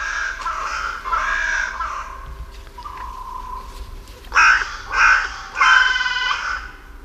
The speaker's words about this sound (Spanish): Esta es la Alameda del Medio Punto, en mi pueblo, en La Granja, en Segovia. Sí, sí. Y aquí, en los árboles que flanquean el Palacio Real, se despiertan las cornejas, pues, a su manera, con esta voz cascada.